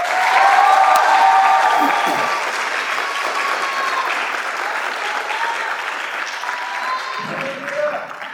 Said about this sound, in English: A big round of applause. Help us welcome Memorial Middle School Mariachi Juvenil.